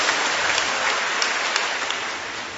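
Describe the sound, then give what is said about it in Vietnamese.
A crowd claps steadily to thank someone, a dense wash of many hands with occasional sharper claps standing out, sustained and fairly loud throughout with no one speaking. “Vâng, chúng ta cảm ơn bạn ấy bằng một tràng pháo tay, thưa các bạn.”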